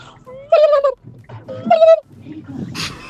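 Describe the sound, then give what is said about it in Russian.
A person imitates a turkey gobbling in a voice message to the Europa Plus radio morning show, giving two loud, warbling bursts with a short pause between them, followed by quieter rustling and a brief breathy hiss. “А я очень хорошо пародирую индюшку.”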